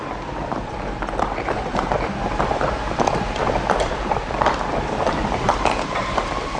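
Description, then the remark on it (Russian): Exhausted horses trudge along a foggy mountain road in falling hail and snow, with a steady, uneven thud of hooves, moderately loud over a dense, noisy rumble that continues throughout without any voices. “Лошади измучились.”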